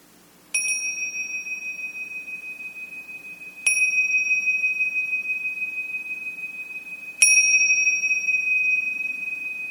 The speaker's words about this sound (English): And we'll close our practice with the sound of the bells.